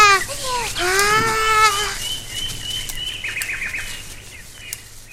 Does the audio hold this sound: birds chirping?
yes